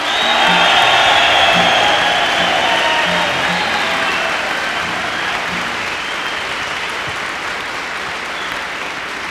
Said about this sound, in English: How about one big cheer for …?